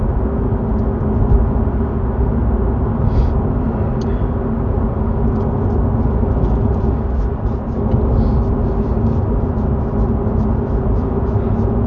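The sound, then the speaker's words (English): A steady, low rumble of road noise fills a car cabin at a gentle cruising pace of about 78 kilometers per hour, constant, with faint light ticks and rattles scattered over it and no one talking. “Down to 64 kilometers left in the car, doing less than 80 kilometers per hour.”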